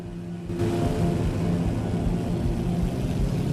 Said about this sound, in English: his engine suddenly stutters. He increases the revs and focuses on an enemy plane.